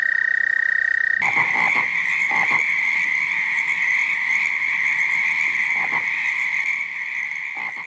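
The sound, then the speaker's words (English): A dense chorus of toads calls at a pond at night, trilling nonstop, one loud high-pitched trill held steady throughout while other callers pulse and croak around it, with no voices. “But then if you came to the same pond that night, you know, they would just be singing like crazy.”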